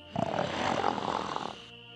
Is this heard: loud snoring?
yes